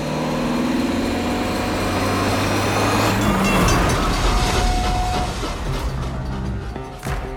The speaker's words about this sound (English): The driver puts the pedal to the metal. It's a race against time as the Buick launches itself over the railroad crossing just seconds before the high-speed train sails past behind them, ensuring their escape.